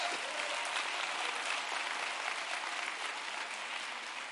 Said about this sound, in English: Come on, let's give him another hand clap.